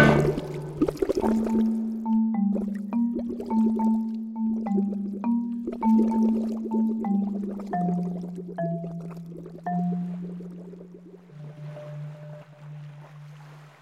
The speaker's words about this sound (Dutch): De zilveren draak maakt een diepe duik en verdwijnt in de zee. Alleen een paar kringen op het water laat hij achter.